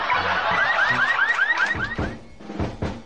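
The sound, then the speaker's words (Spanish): A car alarm blares with a quick series of rising electronic chirps, followed by a few sharp pulsing blasts. It's loud and repetitive, with no one talking. “El hombre le responde: No se preocupe, amigo, mi auto tiene alarma.”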